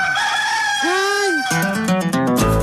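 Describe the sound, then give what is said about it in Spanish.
A rooster crows once, a loud, drawn-out call that rises and falls in pitch, and then bright stepped musical tones take over for the last second. No one speaks. “El gallo es una chimba.”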